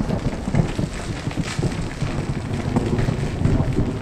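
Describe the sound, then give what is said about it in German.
A loud, sustained thunderous rumble of rock masses crashing and collapsing at both ends of a cave, with a deep roaring low end and crackling, gritty texture throughout. It keeps going without pause, and no one speaks. “Es donnert, wie wenn gewaltige Felsmassen würden zusammenkrachen.”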